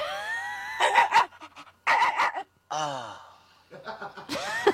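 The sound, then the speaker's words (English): A dog hopping on a couch makes a series of excited noises: short huffing bursts, a rising whine and snuffling yips in quick succession, with brief pauses between them and no one talking. “Faraway Dog becomes close-up dog like almost instantly”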